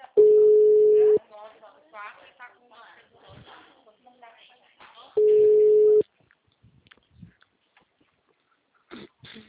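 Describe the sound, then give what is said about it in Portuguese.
A telephone rings in two loud, steady, mid-pitched bursts about four seconds apart, with people talking quietly in between and after. “Alô? O telefone.”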